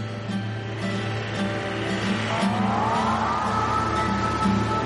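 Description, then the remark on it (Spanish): A van's engine drones steadily with a low rumble and humming tones as it leaves a spot by the sea at dawn with its lights on, rising in pitch midway as it picks up speed along a road, with road noise throughout and no voices. “La furgoneta deja el lugar junto al mar.”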